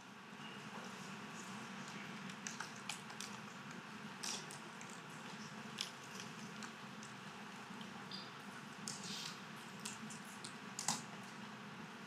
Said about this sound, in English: I'm going to give you a minute to finish typing and thinking about this.